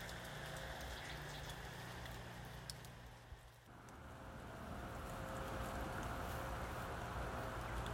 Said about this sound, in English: Just as I said the word peaceful, an engine started up in the background. Must be some work going on in Bolton Abbey Village by the sounds of it, but just shows you that I probably shouldn't open my mouth too soon.